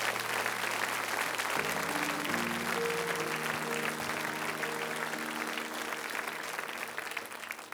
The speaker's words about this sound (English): Can we give God just one more hand clap of praise?